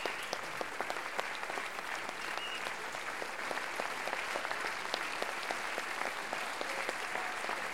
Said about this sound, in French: …, on les applaudit encore très fort. Saluez messieurs.